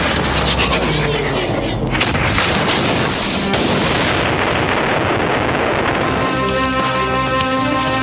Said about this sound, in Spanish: Un enorme árbol se impacta en uno de los helicópteros, derribándolo y haciéndolo explotar.